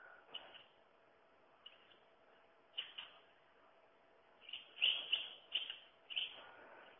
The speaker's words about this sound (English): Lastly, and then we've covered them all, this is a bird that I've not actually seen but would love to. This is the yellow wagtail. And this is what it sounds like, apparently.